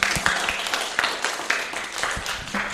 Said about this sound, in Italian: Io direi, vale la pena di ringraziare bambini con un applauso, Radio Spazio Ivrea.